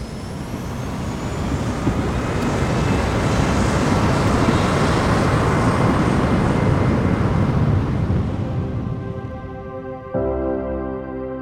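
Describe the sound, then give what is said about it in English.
A loud, steady engine roar builds and holds, broad and rumbling like airplane engines during takeoff, then drops abruptly to a lower hum with a tonal whine near the end. No one speaks. “This is the story behind the sounds we hear on an airplane and how to take the fear out of flying.”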